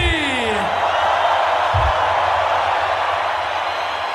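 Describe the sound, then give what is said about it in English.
A dense, steady roar of a large crowd cheering at a music festival, with a rising-and-falling whoop near the start and a couple of low thumps underneath, loud and continuous throughout. “Make some noise for the Tomorrowland family!”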